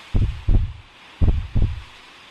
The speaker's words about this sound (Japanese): 聞こえますか、先輩？私の心臓の音。こんなにも私、ドキドキしているんですよ。